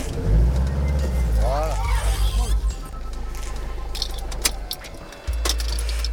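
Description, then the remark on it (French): A car engine rumbles at low speed, briefly rising and pulsing as the vehicle manoeuvres into a parking space, with keys jangling and a few light clicks near the end. “Wow, même pour se garer, c'est compliqué.”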